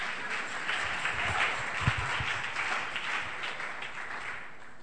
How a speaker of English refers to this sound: Clap for yourself.